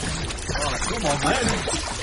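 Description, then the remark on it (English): Steady water sloshing and splashing fills the two seconds as four people drag a sea creature into shallower water, continuous, with indistinct voices murmuring and straining beneath it. “The four of them pulled the sea monster into shallower water.”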